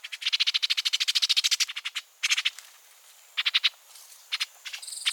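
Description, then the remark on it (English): Orchard oriole calls: a fast, harsh chattering series of sharp notes, then several shorter bursts of chatter after pauses, clear with no talking. “As early as late July, male orchard orioles head south for the winter.”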